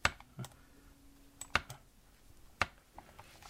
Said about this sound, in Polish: Może pan jeszcze raz kliknąć? Nie. Niech pan klika, a nie ja. No, jeszcze.